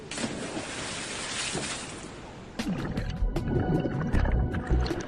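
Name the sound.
rushing water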